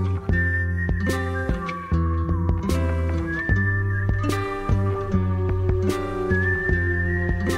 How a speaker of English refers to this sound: You got that whistling at the end of …